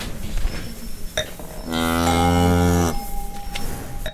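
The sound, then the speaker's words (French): A cow at the Croc du Merle farm in Mythe-sur-Loire, near the Château de Chambord, lets out one long, deep moo lasting over a second, loud and steady, with low background rustling and a couple of faint clinks around it. “Bienvenue au cœur des vignes et des vaches.”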